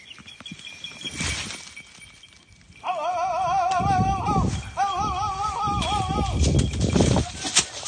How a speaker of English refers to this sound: That's a typical sound a falconer makes to signal to their hawk that an animal they're hunting is getting away. In this case, a gray squirrel. The hawk knows through training to watch their human, well, like a hawk, to gauge where the squirrel is.